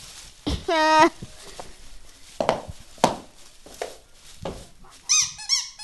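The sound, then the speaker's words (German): A glowing red squeaky toy nose lets out a loud, drawn-out squeak, then a few short, sharper squeaks follow near the end amid soft background rustling. “Ja, das war meine Nase. Die leuchtet so rot und die kann quietschen.”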